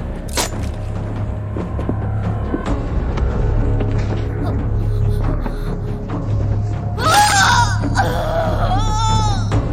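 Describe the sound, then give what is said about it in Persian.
High, wavering screams break out near the end, loud, over a steady low droning rumble that runs throughout with scattered faint clicks. “نظرت راجع به جیغ چیه؟”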